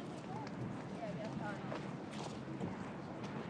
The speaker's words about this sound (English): Oh, and we're now walking on the sand, which is where the horses gallop round. I hope we don't step in a horse poo.